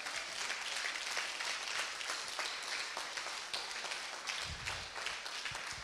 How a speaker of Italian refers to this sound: Forte questo applauso al Signore.